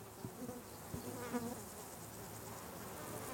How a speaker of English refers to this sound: The bees are just feasting on it, and we just got buzzed by an absolutely immense dragonfly. What is this plant? Well, I think this is the marjoram.